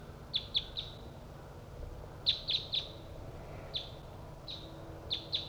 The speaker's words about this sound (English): Decoy and Bird 3-4 responding to wild birds that are coming from the south. I'm pointed towards the wild birds.